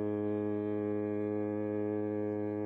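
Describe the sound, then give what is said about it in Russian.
A hand-cranked boat siren, turned by the helmsman as the boat nears a river mooring, gives a piercing, sustained wail over the river, a steady, rich tone that holds at an even pitch and loudness for the whole few seconds with no voices. “Подплывая к стоянке бригадира Шадрина, штурвальный покрутил ручку сирены. Над рекой понесся пронзительный вой.”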